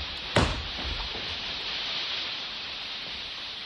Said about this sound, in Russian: О, дождь! Бежим, бежим скорее к нам.